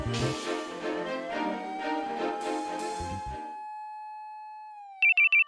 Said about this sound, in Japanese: 大輔さん、また携帯鳴ってるわよ。 知らない番号なんだよ。